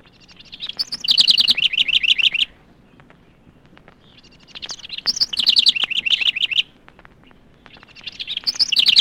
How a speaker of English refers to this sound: The house wren.